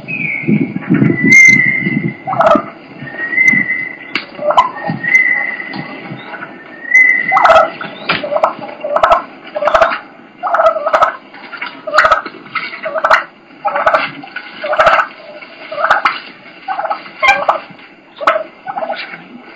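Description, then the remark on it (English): Turkeys purr with a low, rolling rattle, then break into steady, sharp clucks repeating roughly every second, joined by harsher fighting purrs. Fairly loud, with no talking. “This next clip is a bunch of purring and clucking, and then it leads into fighting and fighting purr.”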